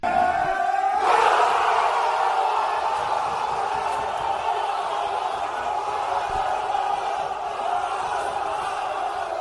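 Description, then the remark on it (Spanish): After a brief quieter moment, Real Mallorca's football players, gathered in a hotel salon, burst into loud, sustained cheering and shouting at the final whistle of Cartagena's win over Almería, a dense roar of many voices that stays strong to the end. “Es como un gol y es el sonido de la afición de un estadio de fútbol. Pues no, son los jugadores y es un salón de un hotel donde estaba concentrado el Real Mallorca”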